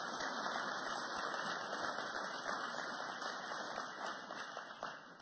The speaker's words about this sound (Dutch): Ja, we mogen best even klappen, ja, dat mag best.